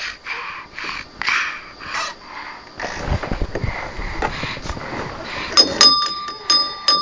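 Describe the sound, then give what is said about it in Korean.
A bell rings out near the end with a few bright, sustained dings, following several seconds of breathy snuffling and rustling noise. “어, 종이 있다.”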